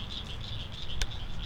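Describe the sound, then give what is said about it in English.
A dense frog chorus at dusk as the sun goes down, a continuous wash of high-pitched peeping and trilling that pulses steadily from many callers, with one brief sharp click partway through. “And we're getting one of my favorite things in the world, the frog chorus.”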